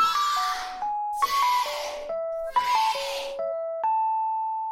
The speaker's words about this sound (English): So you can listen to this cell phone ring again and again and never quite be satisfied that you truly know it, that you truly understand it.